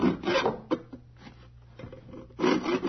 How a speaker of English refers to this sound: Well, this is the cheapest one. It's kind of like scissors. It's really a handsaw.